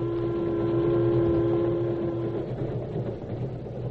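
An approaching train rumbles steadily and loudly, with a sustained droning engine tone that fades out about halfway through while the low mechanical rumble carries on. No one speaks.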